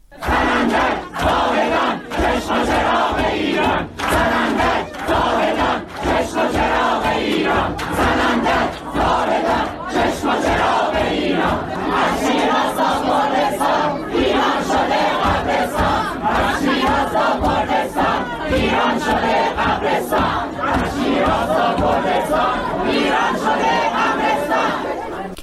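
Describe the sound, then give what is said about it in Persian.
A large crowd of protesters chants and shouts inside the building of the Shiraz Medical Council, loud and sustained for the whole stretch, with rhythmic bursts of many voices rising together. “صدای اعتراض ها در داخل ساختمان نظام پزشکی شیراز رو میتونیم بشنویم”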